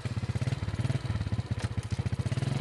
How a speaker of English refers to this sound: He fires up his motorcycle and starts the journey into the forest.